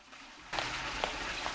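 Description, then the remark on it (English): A toilet flushes in a bathroom: after a brief near-silence, a sudden rush of gurgling water starts and keeps pouring steadily, moderately loud with no voices. “Felix follows the noise of the flush and points his gun at the bathroom door.”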